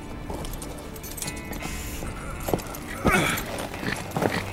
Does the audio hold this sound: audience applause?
no